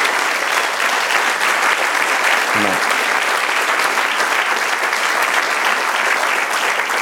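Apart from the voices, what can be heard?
audience applause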